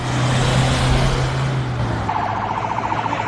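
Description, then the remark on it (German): A convoy of dozens of cars drives to the high-security prison in Silivri, about 70 kilometres west of Istanbul, carrying detainees, with a loud, steady engine and road drone. Near the end a rapidly pulsing siren or alarm tone cuts in over the traffic. “Dutzende Wagen fahren im Konvoi zum Hochsicherheitsgefängnis in Silivri, rund 70 Kilometer westlich von Istanbul.”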